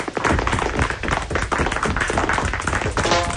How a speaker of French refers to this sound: On applaudit Joe le séchoir.